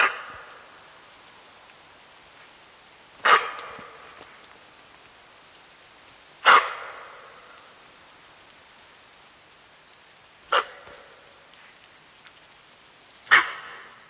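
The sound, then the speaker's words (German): A female fallow deer gives four sharp alarm barks on sensing danger, alerting the herd, spaced a few seconds apart, each short and loud, over a steady hiss of background noise with no one speaking. “Als Fluchttiere gut auf das plötzliche Auftauchen von Feinden eingestellt, versetzen sie das Rudel durch aufgeschrecktes Bellen in Alarmbereitschaft, wenn sie Gefahr wittern.”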